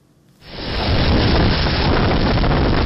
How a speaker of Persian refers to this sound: لحظه طوفان در نزدیکی مرز آلاباما در کامیره های نظارتی یک مکتب در جنوب میسیسیپی ثبت شده است. شب جمعه گذشته در دو ایالت جنوبی طوفان سخت به عمل آمد.